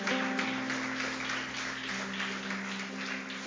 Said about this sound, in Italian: Alziamoci in piedi. Diamo un forte applauso al Signore.